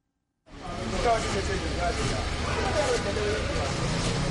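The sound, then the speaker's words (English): Busy outdoor traffic ambience in Abuja of cars idling and slowly moving in a queue waiting for gas amid acute fuel shortages, a steady low engine rumble with indistinct voices murmuring, starting abruptly after a brief silence. “In Abuja, the lines of cars waiting for gas are growing longer.”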